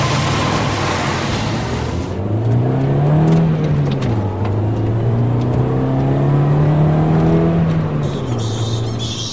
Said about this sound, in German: Auch wenn der Blick immer noch gen Himmel geht, wenn eines der wenigen Tourismusflugzeuge im Landeanflug das Wellengeräusch unterminiert, prägen doch zu Land hier längst Autos das akustische Geschehen.